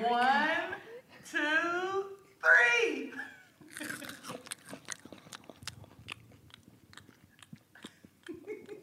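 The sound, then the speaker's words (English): A few drawn-out vocal sounds, then loud crunching as crispy roasted maple chipotle crickets are chewed: a steady run of sharp, brittle cracks and bites lasting several seconds. “Tastes like crunchy crickets.”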